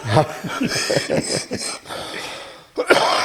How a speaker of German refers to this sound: Ja, mit diesem Husten beenden wir diesen Podcast